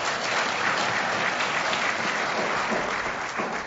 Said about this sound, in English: Oh, go ahead and clap.